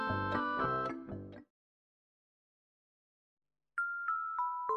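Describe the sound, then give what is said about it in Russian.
A toy rattle's bell, held in a little boy's hands, jingles in quick, rhythmic bursts of bright ringing tones, falls silent for a couple of seconds, then tinkles again with higher, lighter chimes. No voices are heard. “У него в руках игрушка, погремушка с бубенцом. Мальчик смотрит, что за чудо.”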